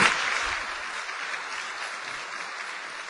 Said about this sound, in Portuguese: Palmas pessoal pro Danilo aqui.